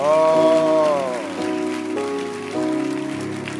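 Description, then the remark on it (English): Loud, sustained applause from many hands after a prayer, answering a call for a loud hand clap: a dense steady wash of clapping, with a held musical tone or voice ringing over it at the start. “I want to hear a loud hand clap.”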